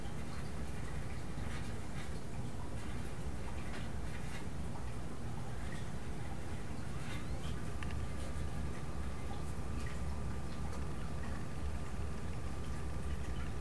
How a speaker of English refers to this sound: We have a lot of good sound effects in the room. This movement of water.